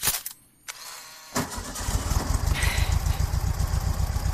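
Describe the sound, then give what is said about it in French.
A Volkswagen Beetle car engine cranks and catches after a brief pause, then settles into a steady, rhythmic putter with no voices over it. “Vous vouliez écouter le bruit de moteur d'une coccinelle, la voiture, donc, hein, et pas l'insecte.”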